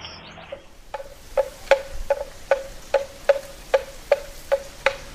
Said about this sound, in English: Well, speaking of travel, Willie Weir and Cat Mariner bicycling around Southeast Asia in Cambodia, they came upon a large carved wooden bell around the neck of a water buffalo. The bell clanks as the buffalo grazes.